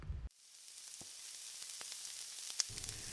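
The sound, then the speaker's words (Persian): Two eggs sizzle steadily in a hot pan beside other ingredients pushed to one side, being fried and scrambled into small pieces for a noodle dish. A dense crackling hiss with scattered sharp pops, starting after a brief low rumble at the very beginning. “دو تا تخم مرغ میشکونم، خوب سرخشون میکنم، اونقدی همشون میزنم تا بافت تخم مرغ تیکه تیکه بشه و رنگ زردش از بین بره.”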